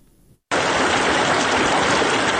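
After a brief near-silent moment, a loud, steady rush of flowing river water sets in and continues unbroken, full, with no voices; the water is at the confluence of the Harirud and Jam rivers, by the Minaret of Jam in Shahrak district, Ghor province, central Afghanistan.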